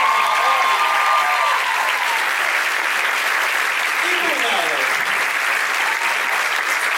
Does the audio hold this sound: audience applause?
yes